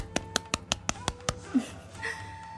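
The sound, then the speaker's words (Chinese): A single person claps seven times in a quick, steady rhythm. The sharp, crisp claps are moderately loud and stop after about a second, leaving faint background noise. “距离第一次制作音声已经过去了半个月的时间，走到了第三期，离不开大家的支持和包容，鼓掌。”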